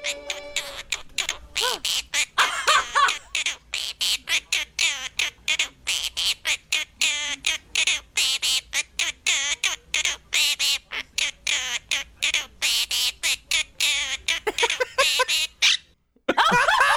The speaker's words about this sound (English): This is a bird chirp singing.